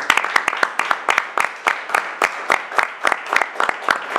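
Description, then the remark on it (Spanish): Audience applause from a small crowd for people being thanked, steady, crisp claps overlapping in an uneven patter, fairly loud and sustained for several seconds, with a faint murmur underneath. “así que les pido un fuerte aplauso para ellos.”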